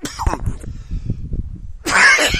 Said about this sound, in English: as you can hear, my cough is somewhat bad. But I'm still here to do the show.